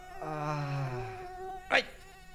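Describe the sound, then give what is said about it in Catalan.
A voice imitates a summer-night mosquito with a steady, nasal buzzing drone that lasts about a second and slides slightly lower, followed by a short sharp slap-like hit. “Home, el mosquit de les nits d'estiu.”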